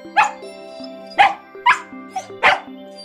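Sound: puppy barking and yipping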